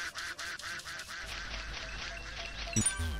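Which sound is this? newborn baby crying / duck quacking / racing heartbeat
duck quacking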